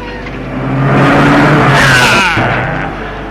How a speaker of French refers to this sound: Ah ! Et il a été renversé par une voiture.